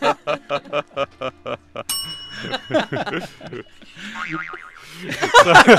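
A single loud metallic gong strike rings out with a sustained shimmer, cutting in after a run of rhythmic pulses and followed by chattery, laughing voices.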